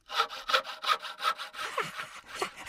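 A hand saw (a Fuchsschwanz, or panel saw) cuts through wood in steady, rhythmic back-and-forth strokes, about seven rasping passes, clear, with the later strokes turning slightly squeakier and more uneven.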